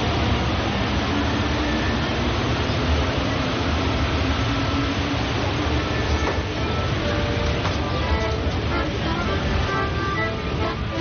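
Steady, loud rumble of a metro train in motion, with a continuous roar and faint whining, squealing tones rising and falling as the carriage rolls along; no one speaks.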